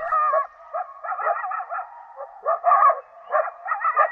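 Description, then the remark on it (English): A chorus of coyotes howls and yips together in a canyon in eastern Washington, wavering, overlapping calls rising and falling in bursts across a few seconds, with no people talking. “Closer to home, coyotes howl in an eastern Washington canyon.”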